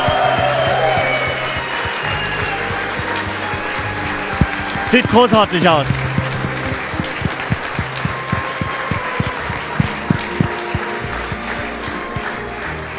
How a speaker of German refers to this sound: Nochmal Applaus, hey, für den Ralf!